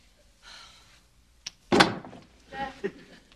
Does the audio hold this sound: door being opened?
yes